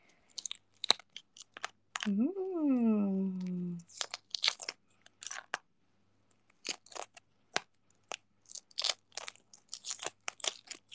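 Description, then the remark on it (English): Brittle crackling and small snapping clicks of the shell of a boiled egg being cracked and peeled, coming in irregular bursts throughout, with a short voiced hum rising and falling near the start. “Wait, can you guys hear the egg peeling ASMR?”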